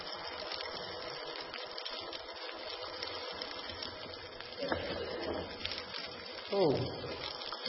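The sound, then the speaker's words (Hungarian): More than a liter of small pebbles pours steadily into a container during an experiment testing whether it is full, a continuous rattling hiss that swells in two louder surges toward the end. “Hú, több mint egy liternyi apró kő bele.”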